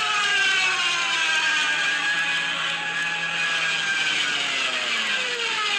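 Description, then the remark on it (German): A loud, continuous wailing siren, built by the Germans into the front of an attacking aircraft diving from above, over its roaring engine, its pitch sliding slowly and steadily downward for several seconds, with no voices; a recording from a video game. “Und das haben die Deutschen extra vorne so eine Sirene eingebaut, damit es kommt.”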